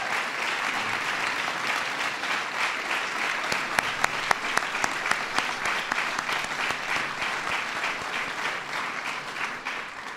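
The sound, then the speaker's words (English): Sustained applause from a large audience for the co-chairs and members of the President's Commission on the Arts and Humanities, a dense steady wash of clapping lasting the full ten seconds with a few sharper individual claps standing out, and no one speaking over it. “and all the commission members who are here, will you please stand and let us give you a round of applause.”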